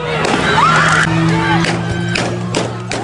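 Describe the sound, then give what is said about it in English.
A crowd of protesters against police violence on an interstate in Aurora, Colorado yells and screams in panic as an SUV speeds toward them, voices overlapping loudly, while a few sharp gunshots fired by a protester crack through the commotion at irregular intervals. “There's yelling, panic, and gunshots.”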